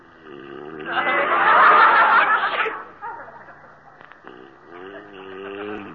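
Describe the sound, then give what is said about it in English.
A single loud sneeze: a short voiced wind-up breaks into a long, harsh, hissing burst of breath, followed by quieter vocal sounds and a brief hum-like voice afterward. “Gesundheit.”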